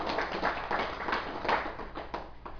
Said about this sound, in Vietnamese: Xin quý vị vỗ cho tràng pháo tay.